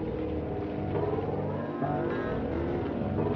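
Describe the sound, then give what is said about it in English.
A machine engine roars continuously with a deep, throbbing rumble and harsh revving overtones, swelling a little louder partway through. No voices are heard. “The vibrating echo of the advancing machine grew louder.”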